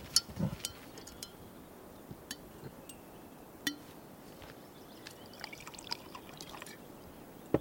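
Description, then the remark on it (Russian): Liquor is poured into glasses with a soft, steady trickle, broken by a few light clinks of glass. The sounds are quiet, with no one talking. “По полному наливай.”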